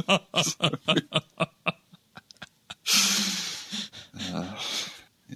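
Dogs left alone at home vocalize after everyone has left: a quick series of sharp yips and barks, then longer, drawn-out howling cries that rise and fade over a few seconds, with no one talking.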